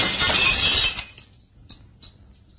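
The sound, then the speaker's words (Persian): A glass pane in an agency's entrance door is smashed with the butt of a rifle in one loud, bright crash, followed by a few scattered tinkles of falling shards as the noise quickly dies away. No one speaks. “حاج کاظم در ورودی رو میبنده، نگاهی به بیرون میندازه و با انتهای تفنگ یکی از شیشه های در رو میشکونه.”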